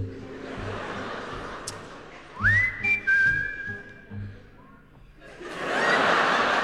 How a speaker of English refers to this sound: Wenn Sie wollen, können Sie jetzt mitpfeifen. Das Zwischenspiel. Everybody whistle.